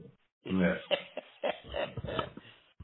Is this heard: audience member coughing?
yes